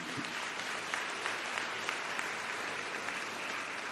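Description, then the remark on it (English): An audience applauds in tribute to Minister of Higher Education Blade Nzimande, a dense wash of many hands clapping at an even, fairly loud level throughout, with occasional sharper individual claps standing out and no voices heard. “We want him to be given a huge round of applause because this day, it is as a result of him.”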